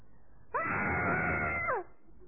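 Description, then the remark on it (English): A man lets out a single loud, drawn-out scream of shock lasting over a second, pitch jumping up then sliding down at the end, with quiet room tone before and after. “I wonder whether there was a scream from his tent that morning.”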